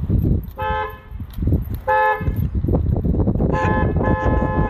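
A car horn honks several times in short bursts over a rumbling low background, with two quick blasts early, another near two seconds, then a longer double toot toward the end.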